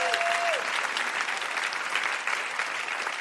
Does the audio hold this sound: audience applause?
yes